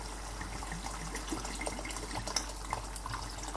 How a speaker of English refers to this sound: so now that's boiling, I'm going to add a bottle of red wine. Actually, I'm not. I'm going to add about a glass, about 150 mils. But I buy them in these small one-serving bottles. So I can legitimately say, I'm going to add a bottle of wine now.